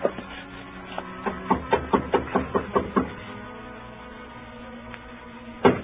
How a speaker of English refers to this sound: climbed the stairs, and knocked on her door.